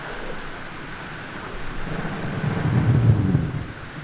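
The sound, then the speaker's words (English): Dense, static-like underwater crackling from millions of bubbles fizzing out of brash ice floating around the surface as it melts, a steady hiss with a low rumbling swell that builds in the middle and then eases off. “The recording that you're listening to here, it has a lot of noise, or what appears to be static, and you have to think of millions and millions, if not billions, of bubbles from brash ice floating around the surface as that melts.”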